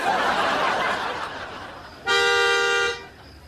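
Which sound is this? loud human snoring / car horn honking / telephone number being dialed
car horn honking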